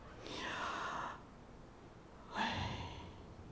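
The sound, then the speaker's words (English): A voice pronounces the letters YHWH as aspirated consonants without vowels: two breathy, drawn-out breath-like sounds, one after another with a short pause between them, fairly soft, with no words spoken. “When pronounced without intervening vowels, it actually sounds like breathing.”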